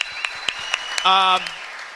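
An audience applauds with a steady wash of dense clapping and a few sharper claps, and a brief sustained cheer or whoop rises over it midway.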